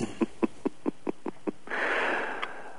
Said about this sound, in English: Well, I tell you what, Pastor, let's pray, because I need to clear my throat.